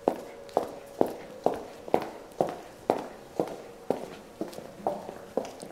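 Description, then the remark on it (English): Steady footsteps of people being walked down to a basement, at an even, unhurried pace, about thirteen sharp heel strikes in under six seconds, each a crisp knock with a short ringing decay, with no talking over them. “I'll walk you down. You'll follow me, please.”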